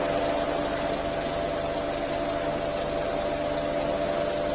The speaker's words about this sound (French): Hélicoptère, voilà.